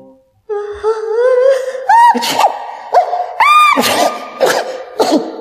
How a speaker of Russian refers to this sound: Запах был до того сильный, что Яков стал громко чихать. Так громко, что проснулся.